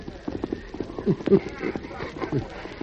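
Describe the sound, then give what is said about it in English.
The Lone Ranger's horse Silver gallops at speed towards the cutoff. Its hooves pound out a quick, steady run of heavy thuds and clops that keeps going for the whole stretch. “The Lone Ranger rode hard to the cutoff, but from here, tracking was slow and difficult.”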